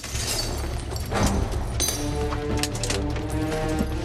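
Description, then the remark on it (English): A sharp crash as a man smashes a car window with his elbow, followed by a bright scatter of tinkling glass shards, all over a steady low rumble. The car seems to be a Mustang. “Coming around to the other side, he casts a quick glance over his shoulder and then smashes the glass with his elbow.”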